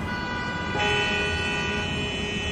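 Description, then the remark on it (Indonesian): Car horns honk in a traffic jam in the city of Bandung in the late afternoon, a sustained, steady blare that swells slightly after the first second, set against a dense rumble of idling engines and street noise. “Meskipun sebenarnya jarak dari kantorku ke restoran itu tidak terlalu jauh, tapi kemacetan yang melanda saat itu membuat perjalananku sedikit memakan waktu lama.”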